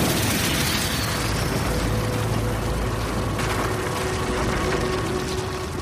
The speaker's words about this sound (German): Und man hört es immer noch tief aus dem Erdinneren brodeln.